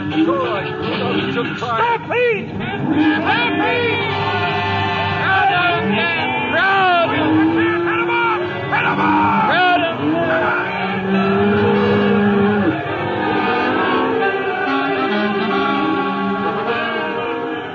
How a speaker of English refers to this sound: Stampede. 10,000 head of cattle gone loco. Like an avalanche bearing down on you, pounding everything to dust that tries to stand before it. Horses, wagons, men, everything.